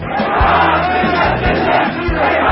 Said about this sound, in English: Shouts of debt to America was being called out in Baghdad among thousands of mourners in a funeral procession for Iranian General Qassem Soleimani, who was killed in a U.S. airstrike.